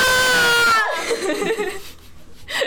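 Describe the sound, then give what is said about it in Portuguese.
Several women let out a loud, sustained scream in unison for under a second as scream therapy, then break into scattered laughter and chuckles that fade and briefly rise again. “Terapia, terapia do grito.”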